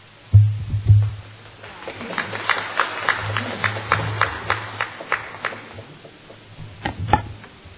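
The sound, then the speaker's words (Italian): The public at a council meeting breaks into applause, a steady patter of many hands clapping that swells and then gradually thins out, with a low hum underneath and a couple of louder thumps near the start and end. “Chiedo di nuovo al pubblico per favore di non intervenire, tantomeno applaudire.”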